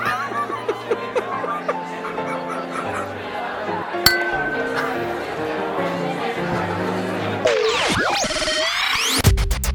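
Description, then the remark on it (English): Glasses clink together in a toast, with one sharp ringing chime standing out midway amid light chatter and chuckling, followed by warbling, sliding tones near the end. “Cheers, guys. Cheers.”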